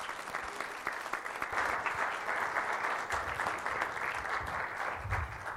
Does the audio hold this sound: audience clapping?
yes